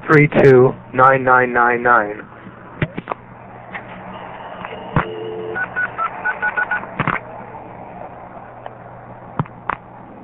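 A quick run of short touch-tone dialing beeps on a telephone line to a number one crossbar exchange, following warbling tones at the start, with scattered sharp clicks and a steady hum of line noise throughout.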